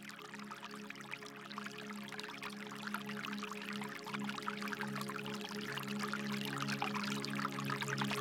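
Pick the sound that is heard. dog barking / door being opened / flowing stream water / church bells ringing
flowing stream water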